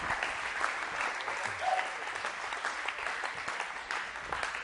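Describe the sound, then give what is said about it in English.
Steady applause from an audience welcoming a guest speaker up to speak fills the whole stretch, a dense wash of many hands clapping at an even, sustained level with no talking over it. “Boy, that was not much of a round of applause. And I need some affirmation. So, would you please give it up?”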